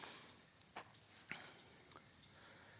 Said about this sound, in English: And you hear that? Baby alligator. No, it's right here. I'm going to go up, check it out. And that's mama gator's nearby.